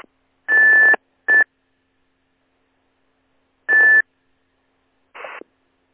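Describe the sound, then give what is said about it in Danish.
Four short bursts of radio transmission, each a hiss of static carrying a steady high beep tone, with silent gaps between them and no voice coming through: a station coming in with a tone but no modulation. “Ja, der er en, der kommer ind med en tone, men der er ikke noget modulation på.”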